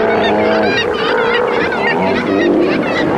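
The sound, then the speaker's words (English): A loud, continuous chorus of Steller sea lions in southeastern Alaska, many overlapping honking roars and groans with rising and falling pitch, dense and unbroken for the whole stretch with no talking. “Well, today we'll visit with Alaska's stellar sea lions.”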